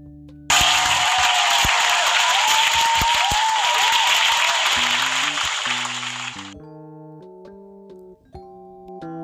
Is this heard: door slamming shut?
no